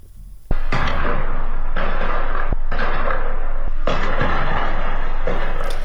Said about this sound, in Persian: در برخی ویدیوها نیز صدای تیراندازی و انفجار در اطراف زندان شنیده شد.